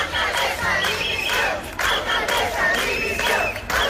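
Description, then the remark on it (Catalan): A crowd of neighbours shouting in protest against the Llucmajor town council government, in the morning in front of the municipal offices of s'Arenal de Llucmajor, Mallorca, many voices yelling together in loud, sustained rhythmic chants that swell and dip without pause. “Aquest que sentiu són el crit de veïnats contra l'equip de govern de l'Ajuntament de Llucmajor.”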